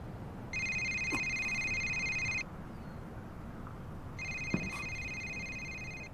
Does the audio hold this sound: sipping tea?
no